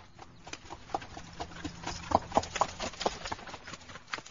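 Horse hooves clip-clop in a short, slightly uneven series of sharp strikes, the beats bunching together near the middle, clear with no voices: Koschei the Deathless's good horse stumbling as he rides home from hunting in the evening.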